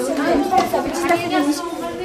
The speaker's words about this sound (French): Il y a du brouhaha.